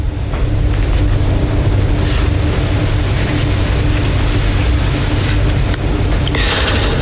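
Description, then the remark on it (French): A boat engine drones steadily and loudly as the boat arrives, a dense low rumble with water wash and hiss over it, continuous for several seconds with no voices. “À la descente du bateau, le doigt pointé sur la carte, nous sommes là”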